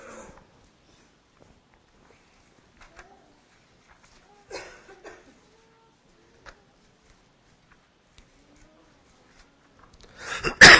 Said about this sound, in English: Sorry about this cough, y'all.